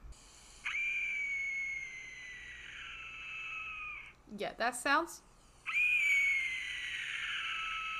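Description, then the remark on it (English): A tiny skull-shaped whistle lets out two long, shrill, breathy screams, each lasting several seconds, like a wailing human shriek, with a brief spoken remark between the blasts. “It sounds like a lady screaming in like a haunted house.”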